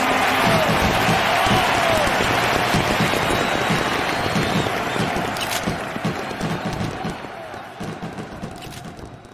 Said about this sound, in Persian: بریم با هم صدای تماشاگرها و صدای مارادونا رو تو اون روز خاص گوش کنیم.